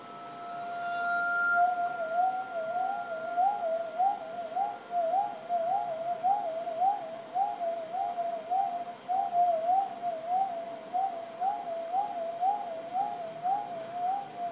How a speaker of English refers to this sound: And so that creates the vibration, pushing in and out. And that gives you a continuous sound. And then I just let it go, and it rings beautifully. I just quicken that. You could get all the bells of London to be bowed with an amazing sound.